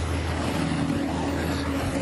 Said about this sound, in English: All right, let me let this truck pass.